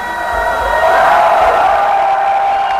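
A crowd reacts with a loud, sustained wash of mixed cheering and murmuring, swelling in the middle and holding steady for a few seconds with no clear speech.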